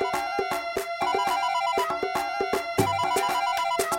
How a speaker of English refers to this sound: Oh, my other phone's ringing. Okay. One second.